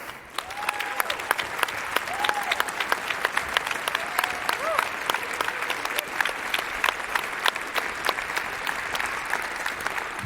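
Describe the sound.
An audience at a poetry slam bursts into sustained applause welcoming a poetry slammer, dense crackling claps at steady volume for about ten seconds, with a few voices calling out faintly underneath.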